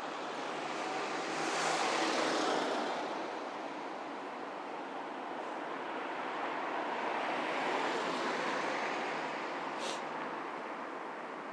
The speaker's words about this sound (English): Oh, this sounds like a bus. That's good. Yes, it was most definitely a bus.